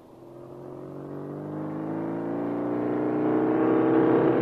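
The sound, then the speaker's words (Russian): A motorcycle engine revs up and pulls away as the rider sets off with a passenger on the luggage rack, its steady droning pitch climbing as it grows gradually louder over a few seconds, with no voices. “Ну, я бросил в сторону Рубанок, вскочил на мотоцикл, ее посадил на багажник и отправился с ней не на луг, а к бригадиру рыболовов.”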